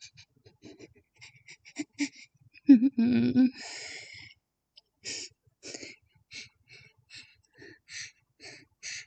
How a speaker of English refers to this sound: I need to get my breathing to calm down.